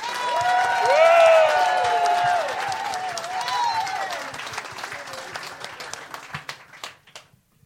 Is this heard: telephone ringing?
no